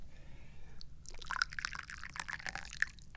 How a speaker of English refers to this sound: So we pour some tea into the teacup